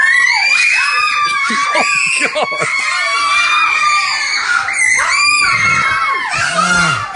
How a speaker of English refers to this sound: Because the screaming, I think I will remember forever.